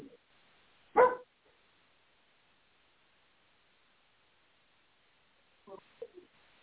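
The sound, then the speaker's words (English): A sick female dog, Mo, outside in the cold gives one sharp, loud bark, then after a long quiet pause a few softer, shorter yips or muffled barks follow. “She's out there. Could you hear her barking?”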